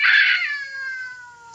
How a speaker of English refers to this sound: Did you wake me up so I could listen to that cat concert?